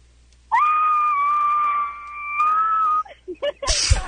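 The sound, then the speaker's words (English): A voice imitates the screaming R2-D2 robot: one long, loud, steady high-pitched whistling wail lasting about two and a half seconds, then a few quick squeaky chirps and a short harsh burst. “You're going to do what impression for us? The screaming R2-D2.”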